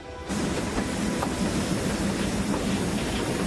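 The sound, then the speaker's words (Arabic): A train carrying soldiers north on the Hejaz Railway rumbles steadily along the tracks with a dense low roar and faint rhythmic clatter, continuous after a brief quieter start, with no voices. “تم إرسال الجنود إلى الشمال على سكة حديد الحجاز.”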